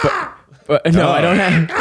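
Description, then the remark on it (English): A person gives a loud, drawn-out nasal caw in imitation of a crow, a harsh rasping call that holds for about a second after a brief clipped start. “Because I'll tell you, my birds aren't the cute birds. I've got those.”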